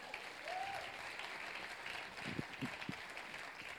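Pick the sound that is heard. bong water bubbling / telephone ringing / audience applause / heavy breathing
audience applause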